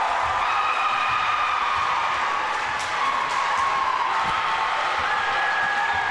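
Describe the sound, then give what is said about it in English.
A large crowd at a Maple Lake basketball game on senior night roars and cheers continuously after senior Karch Anderson scores his first points of the year, a dense steady wash of voices and shouts with scattered clapping, loud and sustained for several seconds. “As the reason for the roar, senior Karch Anderson on senior night, his first points of the year.”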